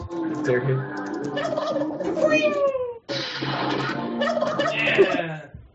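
Turkeys gobble loudly in two long, rattling bursts, several birds overlapping in a dense, warbling chorus with a brief pause between the bursts.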